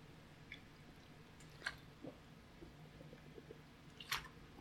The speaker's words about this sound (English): And our reading for today, hang on a minute, I need a drink of water here.